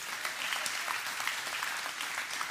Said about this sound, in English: Amen. You can applaud for that. Go ahead.